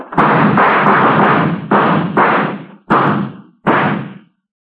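A burst of loud gunshots, about five or more booming blasts in irregular succession, each with a long rumbling tail that runs into the next, then cuts off. No one speaks.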